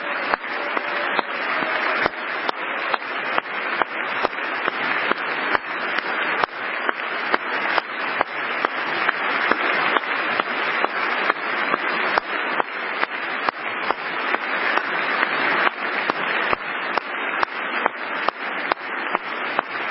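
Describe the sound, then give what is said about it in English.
Trump claps loudly and steadily by his microphone, a little under two claps per second, for the whole stretch, over a constant dense wash of applause-like noise. No one speaks. “Trump is clapping himself through this in addition to the...”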